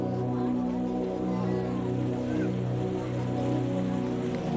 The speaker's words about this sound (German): Ein geschäftiger Platz breitet sich wie ein riesiger Teppich vor uns aus. In seiner Mitte ein riesiger Brunnen mit herrlichen Wasserspielen.